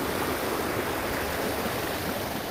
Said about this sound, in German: Achtung, jetzt rauscht es ein bisschen, weil ich wieder zu diesem kleinen Wasserfall komme. Lauscht mal.